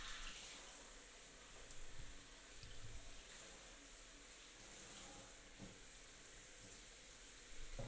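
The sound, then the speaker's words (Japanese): A steady, continuous rush of running shower water fills the whole recording at an even level, with faint splashes and small shifts in the spray but no voices. The shower is rinsing off oil. “シャワーの温度はいかがですか？”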